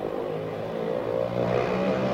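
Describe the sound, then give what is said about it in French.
Several small go-kart engines at the Jardin d'Acclimatation rev and drone together, their buzzing pitches rising and falling and overlapping in a steady, loud mechanical whine with no voices. “Et c'est en vous laissant entendre ronfler les petites cartes que je quitte le jardin d'acclimatation et que je rends l'antenne au studio.”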